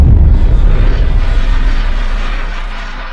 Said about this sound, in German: Ja, also ein großer Knall mit ein bisschen Knatschen hinten dran. Und das Ganze besteht eigentlich aus so ein paar Einzelteilen. Und zwar einmal dem großen Boom, den man da am Anfang hört.